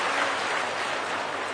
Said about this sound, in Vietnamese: Xin dành một tràng pháo tay để tự tán dương mình.